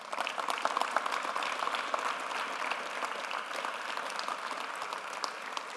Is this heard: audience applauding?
yes